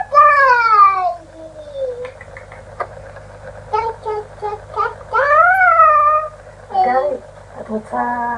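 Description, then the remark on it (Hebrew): A voice imitates a cat's meow with several drawn-out, rising and falling mews, fairly loud, separated by short pauses and softer vocal sounds. “לא, חתול עושה מיהו.”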